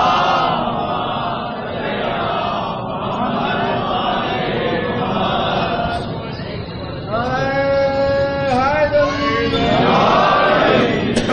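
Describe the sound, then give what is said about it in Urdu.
A large crowd chants a religious slogan (nara) in unison in response to a speaker, a dense roar of many voices with a rising, wavering cry swelling loudly near the end. “بھائی اتنی آہستہ نہ لگاؤ نعرہ کہ میں بھی ڈر جاؤں.”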